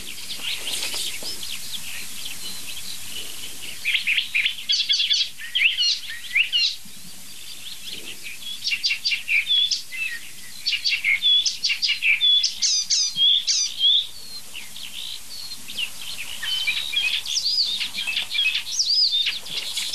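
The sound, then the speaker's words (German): A single bird chirps and calls almost nonstop, rapid high squeaky tweets tumbling over one another, with brief pauses between bursts and no voices. “Alles ein Vogel.”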